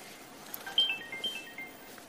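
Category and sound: signal or alarm, mobile phone ringtone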